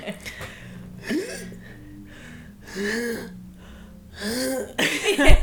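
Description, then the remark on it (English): Whooping cough: bursts of coughing, each followed by a rising, high-pitched whooping gasp for breath, repeating about three times, moderately loud, with a harsh cough burst at the end. “And also, we won't talk about this today, but whooping cough also has that classic whoop sort of sound, as well as the cough, versus a wheeze, which is an expiratory sound.”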